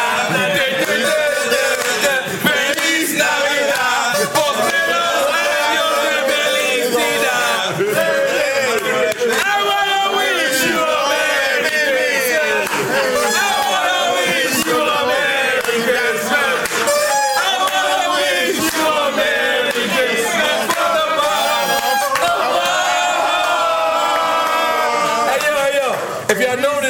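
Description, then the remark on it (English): A crowd in Miami sings together loudly for the whole stretch, with rhythmic hand clapping keeping time beneath the massed voices, a dense, lively group sound. “Was like Spanish a little bit, but the claps was black as a motherfucker.”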